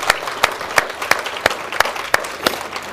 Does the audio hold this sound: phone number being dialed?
no